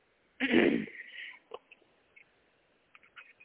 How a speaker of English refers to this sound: I want to excuse myself or say excuse me for the coughing and throat clearing and having problems with allergies and stuff.